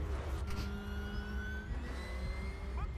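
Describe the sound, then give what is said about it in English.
Racing cars zoom past in a Disney racing video game featuring Lightning McQueen, with a steady engine roar and rising, whining tones as their pitch sweeps upward, continuous and fairly loud throughout, with no talking. “Oh, there's racing cars. Oh, yeah. Cars are going really fast. They're zooming by.”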